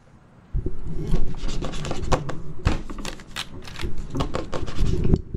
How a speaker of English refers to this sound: rustling inside the walls.